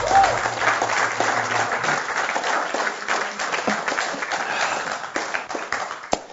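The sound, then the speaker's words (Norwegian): An audience claps steadily for several seconds for the performers after a prayer, a dense crackle of many hands. A faint tone sounds at the start, and the applause stays even before thinning at the end. “Skal vi gi deg en klapp?”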